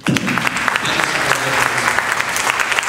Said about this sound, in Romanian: apreciem și haideți să aplaudăm Duhul Sfânt.